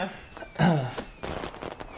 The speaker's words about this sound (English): Whoa, I didn't know you had fireworks here.